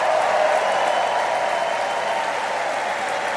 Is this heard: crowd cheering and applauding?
yes